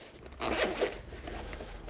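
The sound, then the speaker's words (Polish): A zipper being pulled open on a protective carrying case that holds a packed set of items, a quick rasping zip with a louder burst early on, then a steadier softer scrape trailing off, alone with no voices. “I mamy pokrowiec taki, o, na suwak.”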